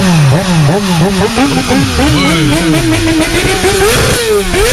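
A motorcycle engine revs loudly, its pitch repeatedly climbing and dropping in quick surges over a steady, continuous roar.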